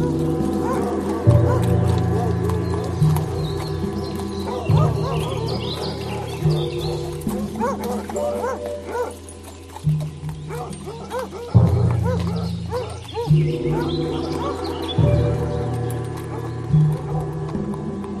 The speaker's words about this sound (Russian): Навстречу хантую из раскрытых ворот с лаем покатилась орава разномастных косматых псов